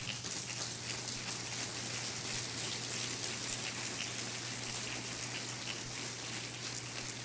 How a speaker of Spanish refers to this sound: Dale otro aplauso de alabanza.